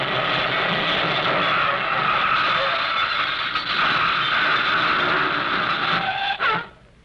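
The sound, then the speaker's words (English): A car roars along loudly and steadily for several seconds, then a short abrupt crunch of impact as it crashes into a tree cuts it off, followed by a quick fade into near silence. “that was my car.”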